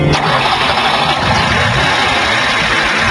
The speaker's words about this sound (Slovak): Teď pomohou startovací vodiče T350. Nastartují studený motor pomocí akumulátoru jiného vozidla.